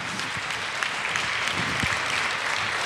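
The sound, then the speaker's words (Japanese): Sustained audience applause, a dense steady wash of many hands clapping at an even, fairly loud level throughout, with no voices on top. “もう一度盛大な拍手をお願いします。”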